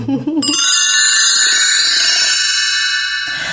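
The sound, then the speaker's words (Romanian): The small bells of a little snake with bells ring out brightly and continuously for about three seconds, a shimmering, fairly loud jingle that follows a brief voice fragment at the start. “Sunt și șerpișorul cu clopoței.”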